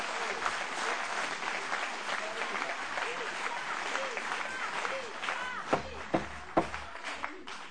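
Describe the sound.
An audience applauds steadily throughout, a dense wash of many hands clapping, with a few voices calling out over it and some louder, sharper claps close by near the end.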